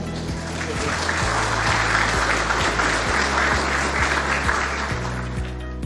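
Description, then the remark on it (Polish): Sustained applause from an audience at the Warsaw School of Economics (SGH) for the president of the Maspex group on receiving the SGH Economic Award, a dense, steady wash of many hands clapping at an even loudness for several seconds, with no voices rising above it. “Wielkie brawa.”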